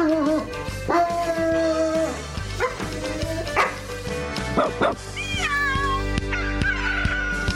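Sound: dog barking and howling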